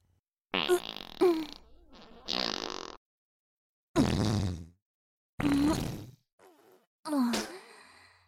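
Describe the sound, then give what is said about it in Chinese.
A series of about five loud fart sounds, each a raspy, sputtering burst lasting under a second, separated by short silent pauses, with no talking. “这里被我弄得这么臭了，居然还待得下去，居然还在这里放屁。”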